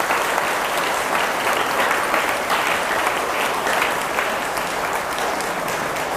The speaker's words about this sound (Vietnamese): Nếu quý vị thấy những điều đề nghị thực tập đó là có thể thực hiện được trong tầm tay thì hãy dâng cao một tràng vỗ tay thật lớn nào.